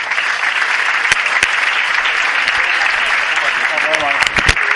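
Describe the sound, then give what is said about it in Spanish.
Sustained audience applause at a business gala for councillor José Antonio Reverde, a dense steady wash of many hands clapping at even loudness, with a few sharper individual claps and a faint voice or cheer near the end. “aplauso para el concejal don José Antonio Reverde.”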